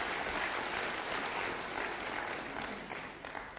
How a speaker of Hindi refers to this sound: इनके लिए जोर से तालियां बजाएंगे हम.